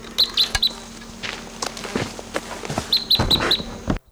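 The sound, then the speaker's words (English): Wild birds give two quick bursts of sharp, high chirps, about four or five notes each, separated by a pause. Scattered flutters and soft thumps run between them, like wings as the birds take off. “Those birds took off.”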